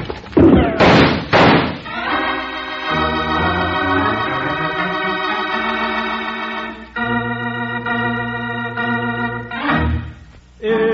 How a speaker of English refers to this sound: Yank open the door, Jingles, and duck. Okay, here goes.